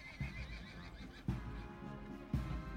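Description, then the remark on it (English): Horses' hooves clip-clop in a slow, steady rhythm as the horses trot toward Hyde Park Corner on a summer day, three solid thuds about a second apart over a low, continuous rumble, with no one speaking. “From the clip-clop of the horses' hooves, to the faint rustle of the summer leaves, to the distant click of cameras, as a small, excitable crowd gathered, unaware that they were trotting into a trap.”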